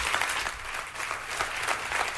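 Steady applause from a small crowd at an Apple product event after the Apple Watch announcement, a continuous patter of clapping hands that stays fairly even in loudness throughout, sounding more like a comedy club than a stadium.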